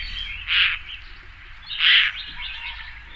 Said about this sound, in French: Mais les nids, les gens qui ont des nids de huppe à côté de chez eux, ça fait un bruit. Ça, c'est les jeunes. C'est les cris des jeunes.